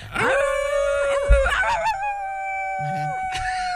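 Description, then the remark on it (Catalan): Several voices imitate a wolf howl together on a count of three, a long sustained wavering cry held for a few seconds, fairly loud, with voices overlapping and shifting pitch. “Però, bueno, el llop com seria? El llop seria, a veure, amb la de tres, com fem el llop?”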